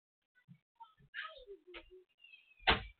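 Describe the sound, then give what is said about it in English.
A door thuds shut near the end, a single firm, loud knock, after a stretch of faint squeaks, rustles and soft scattered noises. “Close my door and tell Nana you need your diaper changed.”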